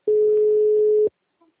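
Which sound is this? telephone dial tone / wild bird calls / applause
telephone dial tone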